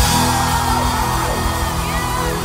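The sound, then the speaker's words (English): A large crowd, asked to celebrate Jesus, screams and cheers at once, a dense, loud, sustained roar with whoops and yells rising out of it, holding steady for a couple of seconds. “Are you ready to celebrate Jesus? Let me hear you scream!”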